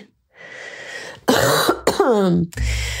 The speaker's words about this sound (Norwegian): Der måtte jeg slippe løs en host.